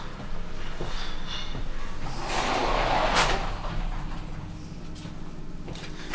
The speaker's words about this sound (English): Now, let me close this door.